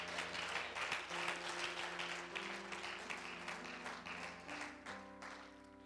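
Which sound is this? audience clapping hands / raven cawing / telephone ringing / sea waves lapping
audience clapping hands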